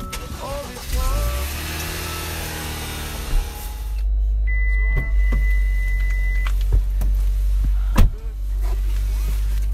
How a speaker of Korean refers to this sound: 제법 근사한 자동차를 몰고 다니는데요.